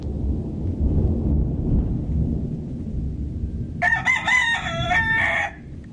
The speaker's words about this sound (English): And here's our chickens talking to us.